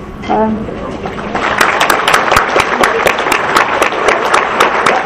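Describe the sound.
An audience breaks into sustained applause for first-time attendees who stand up, many hands clapping in a dense, steady wash that fills the room, with a voice speaking briefly at the start.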